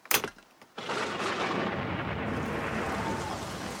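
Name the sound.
thunder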